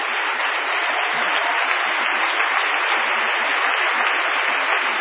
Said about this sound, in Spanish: Un aplauso enorme para la Camerata Bariloche.